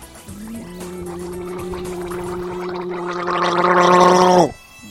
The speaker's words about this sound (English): Holy shit, my voice sucks. Let me just gargle here.